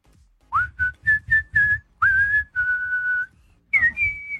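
Someone whistles a song melody: a scooping first note, a quick run of short repeated notes, then longer sustained tones, a brief pause, and two final higher notes, clear and steady with no talking.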